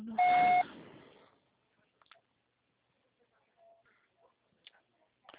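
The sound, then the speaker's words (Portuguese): An answering machine beep: one loud, steady electronic tone lasting about half a second, trailing off quickly, followed by near silence with a few faint scattered clicks. “tá tocando recado.”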